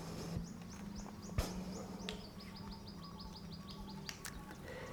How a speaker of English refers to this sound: Our gracious and great God in heaven, even the birds singing and the sunshine, the fact that we're able to meet this morning is a testimony of your grace.